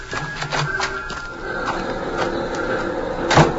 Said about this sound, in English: Okay, here we are. Now open the door and get inside.